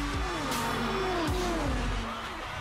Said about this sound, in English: We start new traditions with old friends and join 300,000 fans screaming over 700 horsepower engines. We're 33 drivers dreaming black and white and battle 240 miles per hour to make it a reality.